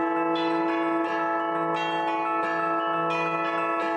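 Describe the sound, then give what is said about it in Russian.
Church bells of Saint Sophia peal continuously after a solemn service as worshippers set off in a procession of the cross to the Spaso-Euphrosyne convent, several bells struck in an overlapping, fairly rhythmic pattern with rich ringing overtones that sustain throughout, fairly loud and without any voices. “После торжественного богослужения от Святой Софии под звон колоколов молящиеся крестным ходом прошли к Спасо-Ефросиньевскому женскому монастырю, где находятся мощи преподобной.”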